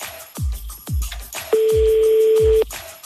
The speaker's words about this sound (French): Deuxième sonnerie.